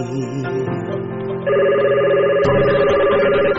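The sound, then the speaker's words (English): A telephone at a man's desk rings with a loud, steady electronic tone that shifts to a brighter pitch partway through, with no voices over it. “There's a man at a desk with a camera and a phone.”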